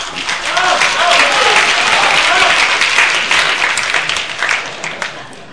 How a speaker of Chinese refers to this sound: 今天是新相声专场，虽然不太可乐了，但是观众们要热烈鼓掌，谢谢各位朋友。